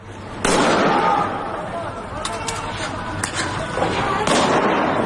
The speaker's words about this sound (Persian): تصاویر بسیاری از شلیک مستقیم نیروهای امنیتی، نظامی و انتظامی به مردم معترض منتشر شده. چه اینجا در تهران اطراف دانشگاه شریف و چه اینجا در خیابان‌های سنندج.